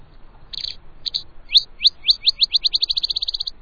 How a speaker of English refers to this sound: And a rufous-winged sparrow voices its gentle melody.